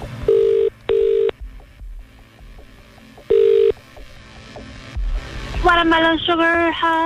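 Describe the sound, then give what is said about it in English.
An outgoing call's ringback tone purrs twice in quick succession, pauses, then rings once more, clear and steady over faint background noise, before a voice begins near the end. “If you're getting this call back now, please know the deal. You must answer your phone in a very specific way, okay?”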